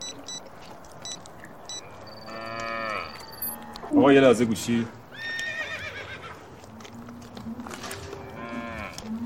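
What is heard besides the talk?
cattle mooing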